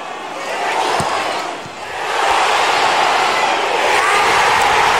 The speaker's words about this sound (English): That's Team X's fans you can hear celebrating over to my left. The equaliser we thought was coming has arrived.